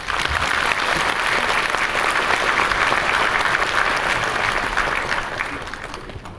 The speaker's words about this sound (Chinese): 也希望在座的大家能够用你们的热情和掌声一如既往地支持我们的演职人员，谢谢大家。